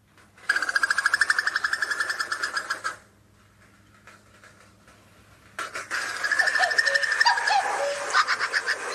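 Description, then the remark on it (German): A rapid, bubbling trill of a female common cuckoo rings out for a couple of seconds, pauses, then returns louder and longer, with fainter bird calls in the background. “Der Ruf des Kuckuckweibchens.”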